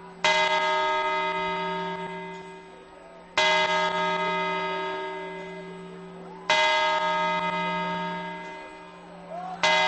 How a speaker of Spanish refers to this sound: Primera campanada. Segunda. Tercera. Cuatro. Cinco. Lo canta la gente en la Puerta del Sol. La sexta. Séptima campanada, la gente móviles en la mano, tomando las uvas. Siete, ocho.